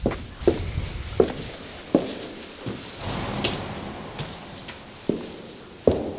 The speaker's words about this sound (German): Im Inneren des Rundbaus stehen Stuhlreihen, Teppiche dämpfen die Schritte, bodentiefe Fenster erhellen den Raum mit Sonnenlicht.